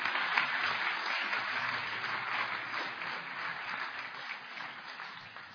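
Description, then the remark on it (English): A church audience applauds the children's church as they come off after their Christmas reading, a dense wash of many hands clapping at an even, fairly loud level that holds through the whole stretch with no voices over it. “Why don't we give them another round of applause as they come off?”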